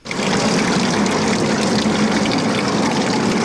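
Steady running water splashes continuously from an outdoor public tap in a park, the only water source for dozens of refugees washing themselves there, a dense, even hiss and patter that holds throughout with no voices.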